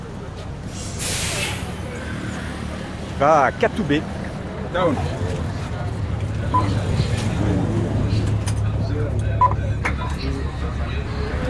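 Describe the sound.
A city bus, route 101 in Kigali, rumbles by and releases a sharp hiss of air brakes, followed by a few electronic beeps, while people talk over the steady engine drone.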